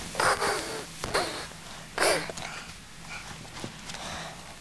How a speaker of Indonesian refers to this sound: Udah mamanya sapi.